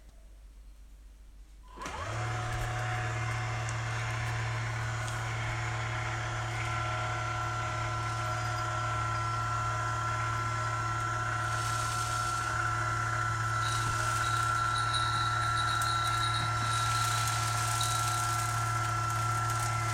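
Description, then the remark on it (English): After a moment of quiet, a self-cleaning litter box is switched on and its motor runs its cycle with a steady, low mechanical whir and grinding ratchet-like texture, holding even throughout, with faint rattles near the end as clumps drop into its drawer. “Turn the unit on and it'll do its cycle.”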